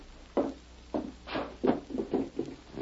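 A wooden drawer is handled, with a quick series of dull thumps and short scraping knocks as it slides and shuts, and no one speaking.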